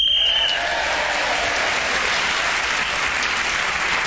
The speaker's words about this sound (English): So, Paul Merton speaking as a whistle went, gained that extra point.